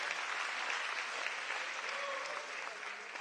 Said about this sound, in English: Somebody give the Lord a hand clap of praise and a shout of praise.